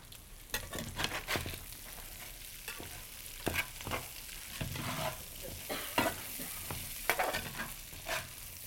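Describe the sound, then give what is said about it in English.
Peppers and celery sizzle and crackle steadily in oil in a hot pan as they are stir-fried, with irregular scraping and clattering bursts as they are stirred and tossed. No voices, fairly loud. “Okay, so when we get these guys stir frying,”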